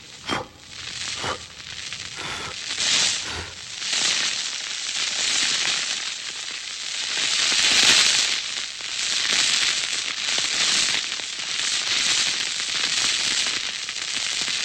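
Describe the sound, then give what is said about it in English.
A few sharp crackles and pops give way to a sustained rushing, hissing roar as air is blown steadily into the embers of a fire that has almost gone out, bringing it back to life. Fairly loud, with no talking. “Almost gone out. I will blow it into life.”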